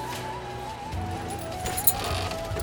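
Horse hooves clip-clop in a steady rhythm while a horse cart with a guide rolls along a dirt road over a dune toward a trading village, a low rumble of wheels underneath, fairly even in loudness throughout.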